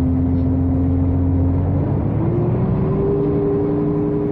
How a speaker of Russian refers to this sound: Автобус тронулся.